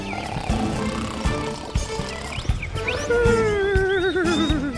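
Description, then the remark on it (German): Loud, horse-like snoring from a sleeping coach driver that rises into a wavering, whinnying sound, with no talking over it and rough noises in the background. “Die schnorchelt wie ein Pferd.”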